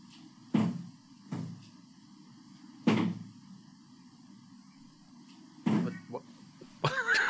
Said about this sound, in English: What is that? Sounds like it's just a smash. Some smashing. Is that your cat? Yeah. Oh my god. Running into the door? Yeah, what is he doing? I have a... Oh, it gets louder too, but... Okay. Yeah. You get it. It just repeats itself.